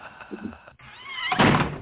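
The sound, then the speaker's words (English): A door swings shut with a dull, solid thunk near the end, catching someone's finger, preceded by a brief creaking, wavering tone; moderately loud, with no talking. “Cut my finger in the door.”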